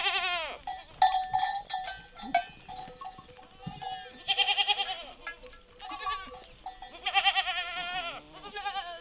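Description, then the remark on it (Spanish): Many small livestock bells, fitted with thick splinters of holm-oak heartwood, clank and tinkle irregularly as a shepherd's flock of grazing goats and sheep moves about, with goats and sheep bleating now and then in the mix, with no talking. “Los pastores aseguran que con este material el sonido puede escucharse desde distancias muy lejanas. Reconocían así sus rebaños y les permitía encontrar una oveja o una cabra perdida en el monte.”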